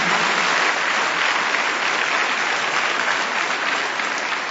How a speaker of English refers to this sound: On behalf of the managing committee members, principal and head of institution, staff and students of International Indian School, Dhamar, I wholeheartedly welcome Dr. Farhad Hashmi amidst a loud round of applause.